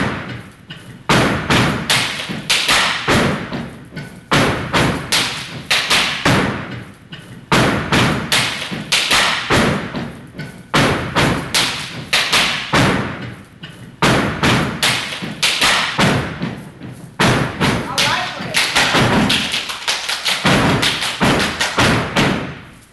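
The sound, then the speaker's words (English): A step team from Stomp Down, a national touring step show of youth and college teams, stomps and claps in tight unison. Loud percussive thuds and slaps land in fast, driving rhythmic bursts with brief pauses between phrases, and no voices are heard over the beat. “Well, finally this hour, it's a national touring step show that brings together youth and college teams from across the country to display their incredible dancing and step skills.”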